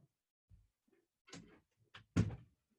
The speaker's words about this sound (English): Sorry. Someone was knocking at the door.